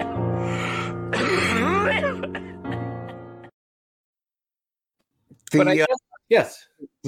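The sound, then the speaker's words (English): A sustained, wavering tonal sound gives way to a pause, then a cluster of short, harsh coughs in quick uneven bursts, fairly loud. “The coughing really really sells that bit.”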